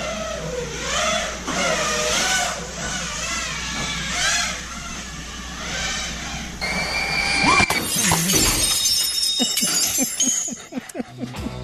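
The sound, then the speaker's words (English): A whirring drone motor whine with rising and falling pitch gives way to a loud crash of a glass sliding door shattering as the out-of-control drone flies through it from a backyard into a house, followed by scattered tinkling and clattering debris settling. “He doesn't have control of his drone and goes right through the sliding door of his beautiful home and smashes into his house.”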